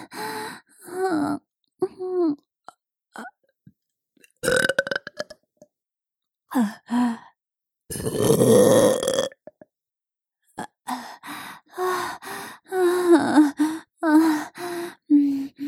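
A loud, drawn-out burp lasting over a second, surrounded by close breathy vocal sounds, gasps and short bursts of a woman's voice before and after.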